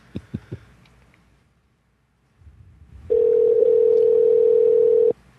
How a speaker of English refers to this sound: And I'm going to give her one last call and see if I can get a hold of her.